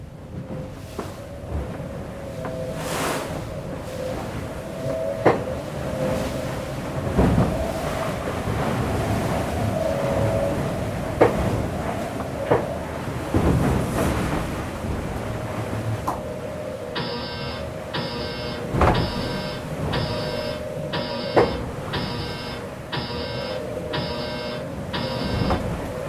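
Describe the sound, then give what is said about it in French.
Onboard a sailboat: constant wind and wash of the sea with creaking, straining rigging, then a rapid series of about nine evenly spaced electronic alarm beeps in the last third. “parce qu'il y a des alarmes et en fait il tire énormément sur le gréement.”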